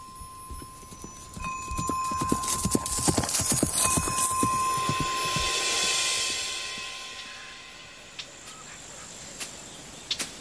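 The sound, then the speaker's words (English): Horse hooves clip-clop in a steady, sharp rhythm, loudest early on and gradually easing off, with a faint high insect-like hum in the background and no talking. “See no harm comes to the horse.”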